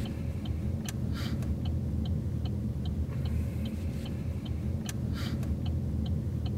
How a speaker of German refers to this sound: Genug von Menschen und Gesprächen, an dieser Stelle hört man ein Auto von innen.